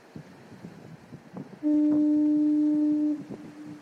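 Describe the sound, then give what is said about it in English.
A single loud, deep blast from a coastal foghorn sounds for about a second and a half, a steady low tone with harmonics, set against a faint background of wind and low rumbling. “First of all, people are really upset about the fog horns being turned off.”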